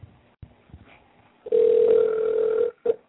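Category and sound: signal or alarm, telephone ringback tone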